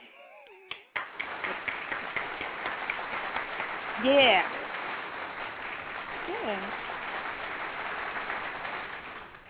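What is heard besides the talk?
applause sound effect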